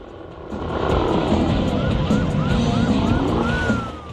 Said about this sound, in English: They start their engine, turn their siren on, and join the chase.